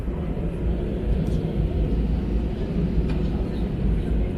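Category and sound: ambience, airplane cabin ambience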